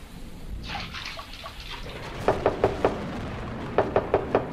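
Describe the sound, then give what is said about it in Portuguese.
Two quick sets of four firm, crisp knocks on a friend's door, separated by a short pause, over a steady hissing background like light rain. “Ô Joaquim, sou eu, …. Abre essa porta, vamos brincar.”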